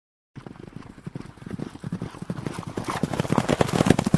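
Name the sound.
horses galloping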